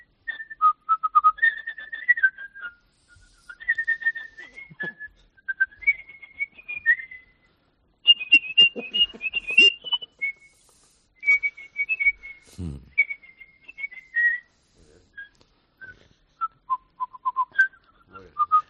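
A person whistles a catchy pop melody over a telephone, clear, with bright sustained notes and quick trills broken by short pauses, carrying on for nearly twenty seconds without any talking.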